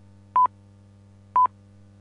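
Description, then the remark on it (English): Two short, steady high beeps exactly one second apart, the time signal pips of Britain's speaking clock telephone service, sounding clearly over a faint low telephone-line hum with no voices. “That's usually what one hears when calling Britain's speaking clock telephone service.”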